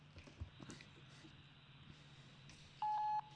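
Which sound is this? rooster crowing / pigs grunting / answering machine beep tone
answering machine beep tone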